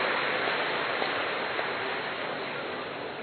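Dense, steady applause from an audience clapping loudly to express joy at a mass wedding, a continuous wash of many hands clapping at once that holds its level and fades only slightly toward the end, with no voices over it.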